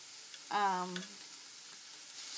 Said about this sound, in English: I'm using a Teflon pan right now, and just trying not to go down to the bottom. Yes, these are good and brown. They're just, when I'm frying meats,